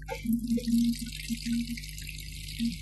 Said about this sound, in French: Ça va, tu arrêtes l'eau, là. C'est bon comme ça. C'est bon, tu... L'eau, il faut arrêter l'eau. Tu m'envoies encore un peu d'eau. Encore un peu d'eau, là.